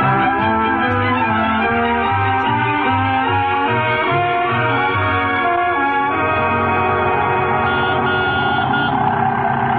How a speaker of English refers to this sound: Rochester, get the car out. We're going downtown.